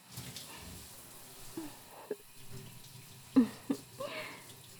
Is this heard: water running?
yes